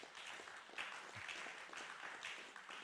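A crowd applauds steadily, a dense wash of many hands clapping at once, sustained evenly for a few seconds at moderate distance with no voices on top.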